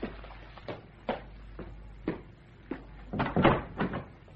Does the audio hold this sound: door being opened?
yes